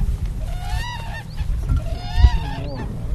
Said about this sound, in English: The endangered whooping crane is the tallest North American bird, and it's named for its distinctive whooping call.